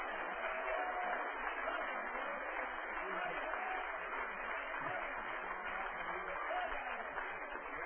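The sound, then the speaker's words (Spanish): An audience claps together as applause to God in a steady, dense wash of applause that holds at an even loudness for the full length, with a few faint voices mixed in beneath the clapping. “Denle un aplauso a Dios en esta noche.”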